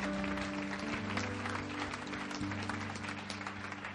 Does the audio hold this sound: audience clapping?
yes